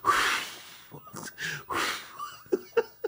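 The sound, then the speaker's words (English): Loud, exaggerated heavy breathing from a woman lifting 5-pound weights: several forceful huffing exhales with strained, voiced grunts mixed in. “Look, she's struggling with them 5 pound weights. And even breathing, I'm like, are you seriously breathing with 5 pounds?”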